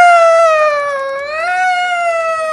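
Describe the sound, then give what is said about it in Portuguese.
A single voice imitates a fire truck siren with one loud, unbroken wail, its high pitch sagging in the middle and then climbing again before holding steady to the end. “Assim, imita a sirene, imita a sirene.”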